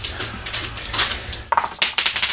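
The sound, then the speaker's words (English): Dice clatter and rattle across a hard tabletop in a quick burst of sharp clicks, tumbling and knocking together before settling, fairly loud, with no voices. “Hey, get that fucking dice out of here.”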